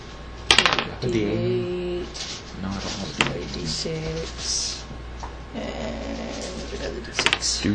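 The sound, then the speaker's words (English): Small hard polyhedral dice clatter and click as someone rummages through a pile looking for a D4 among a bunch of D8s, with sharp bursts near the start and end and scattered taps between, over faint background voices. “Once I find it. I see a bunch of D8.”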